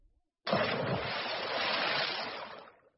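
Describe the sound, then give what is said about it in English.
A sudden heavy splash as Bagheera the panther and Baloo the bear jump into the river, followed by a loud rush of churning, sloshing water that lasts a couple of seconds before fading out. No voices. “Bagheera and Baloo jump into the river.”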